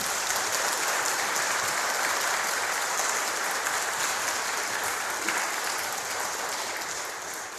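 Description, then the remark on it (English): Steady applause from a church audience for the musicians, singers and readers, a dense wash of many hands clapping at an even, sustained level before easing off slightly at the end. No one speaks over it. “I think they deserve a special round of applause.”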